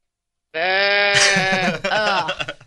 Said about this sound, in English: Your people of Broad Ripple are going to turn on you once they hear that goat every morning.